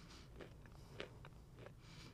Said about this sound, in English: But listening to you guys chew really brings me a lot of joy.